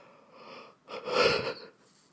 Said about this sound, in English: I can't stop yawning in this basement because it's freezing. I don't know if that's a real thing. Somebody could get back to me on that. But when I get cold, I yawn like.